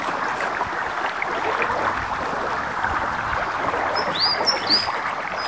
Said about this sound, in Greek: Είμαι στο δάσος. Και τι είναι αυτά που βλέπω? Τι ωραία φύση. Πουλάκια, σκιουράκια, ένα ορμητικό ποτάμι.